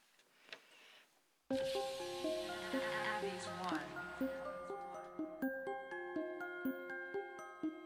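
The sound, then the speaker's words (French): A French rap song, played as a musical break, starts abruptly after a brief faint rustle, playing loud with steady melodic synth notes and a sung, heavily processed vocal line over a pulsing beat. “Et on va peut-être faire une petite pause musicale pour écouter un son.”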